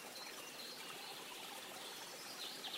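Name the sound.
babbling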